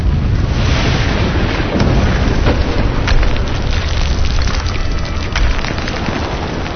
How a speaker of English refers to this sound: And there were noises and thunderings and lightning, and there was a great earthquake, such a mighty and great earthquake as had not occurred since men were on the earth.